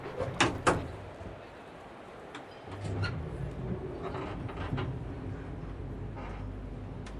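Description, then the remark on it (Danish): An elevator's sliding door clunks a couple of times, then rolls open with a low mechanical rumble and hum onto the basement level of Grand Central, with no voices. “Så det bliver med elevator igen. Da vi når op, og døren åbner sig ud til Grand Central's officielle kælderetage, står vi foran landets største hittegodskontor.”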